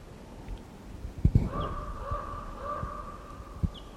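wild bird calling

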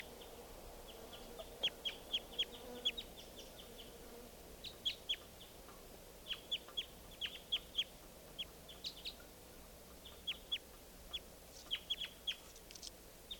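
wild bird calling

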